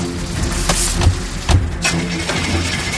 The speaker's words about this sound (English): The car won't start!